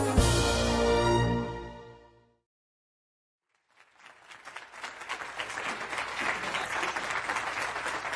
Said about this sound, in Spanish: Gracias, gracias. ¿Cómo están? Uy, oigan, esos aplausos yo los escuché muy aguadillos.